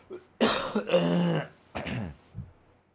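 A rough bout of coughing caused by post-nasal drip: a long, raspy, throat-clearing cough followed by a shorter second one, then a faint rasp, with no talking.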